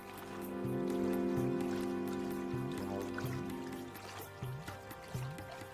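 A babbling mountain stream splashes steadily over stones, the water whirling and drawing in air at each stone, its continuous trickling wash mixed with a sustained low tonal hum and a few soft repeating chirps.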